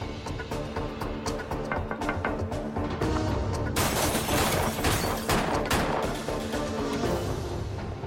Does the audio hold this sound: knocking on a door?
no